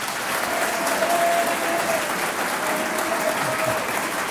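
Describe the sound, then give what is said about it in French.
An audience claps steadily and loudly for several seconds for quiz contestants on France Inter radio, a dense wash of many hands with no pauses, even from start to finish. “Devant les micros de France Inter aujourd'hui, ils attendent les questions bleues, blanches, rouges, et peut-être Banco et Super Banco, nos candidats, je vous demande d'applaudir.”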